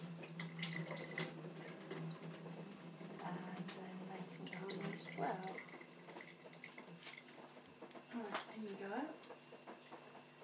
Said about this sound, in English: A few left at the bottom here. Got stuck. So I'll put a bit of water in. Tin. Just swish around. Drain.